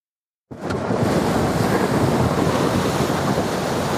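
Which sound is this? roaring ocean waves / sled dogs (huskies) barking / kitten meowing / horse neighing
roaring ocean waves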